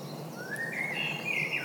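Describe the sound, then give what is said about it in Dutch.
A European robin sings a thin, high, wavering phrase of rising and trilling notes over a steady background of outdoor hiss, with no one talking. “Voor ons weer een roodborst. Dat wat ik een kabbelend beekje noem.”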